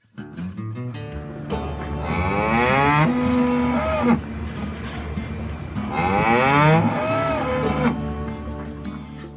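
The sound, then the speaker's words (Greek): Cows grazing in a pasture near the AgResearch institute in New Zealand, eating fresh green grass, moo twice in long, drawn-out calls, each lasting a couple of seconds, loud, over a steady low outdoor rumble with no talking. “Πολύ κοντά, οι αγελάδες βόσκουν ανέμελα. Καταβροχθίζουν μεγάλες ποσότητες φρέσκου καταπράσινου χορταριού, αφήνοντας ένα μου ικανοποίησης.”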